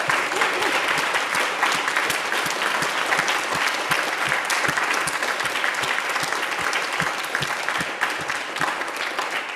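An audience at Wesley Memorial Methodist Church claps loudly and steadily for a new member received into church membership, dense overlapping hand claps forming a continuous wash of applause that holds its level for the whole stretch.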